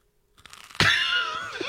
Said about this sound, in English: Oh, that's some crunchy toast. That's fantastic.